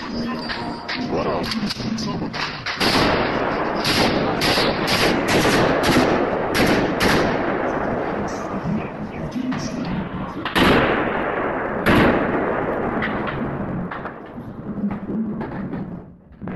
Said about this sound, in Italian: Scommetto che chi di voi ha avuto lo stomaco di guardare il video che sentite in sottofondo, quello diffuso dall'ISIS dove 4 macellai sparano raffiche di colpi su civili inermi e sgozzano un uomo già a terra